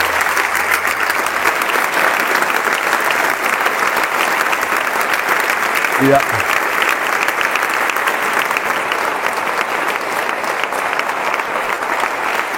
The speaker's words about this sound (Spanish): Te voy a invitar a que le demos un aplauso a Dios por estos hermanos y hermanas que nos traen esperanza.